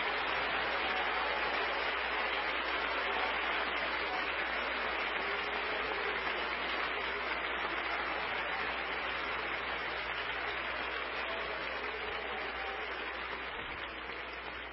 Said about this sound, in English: Give the Lord another hand clap of praise.